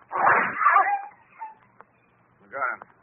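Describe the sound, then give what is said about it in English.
A dog yelps loudly, trailing into a thin whimper, then falls quiet before one more short, strained yelp near the end. “Reckon that dog won't attack anyone else.”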